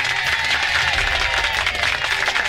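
crowd cheering sound effect

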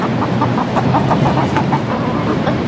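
chicken clucking

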